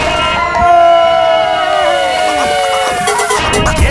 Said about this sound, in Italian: Ringraziamo tutti i genitori che hanno partecipato in questa giornata qui al Sapre. Facciamo un bel applauso. Applauso, grazie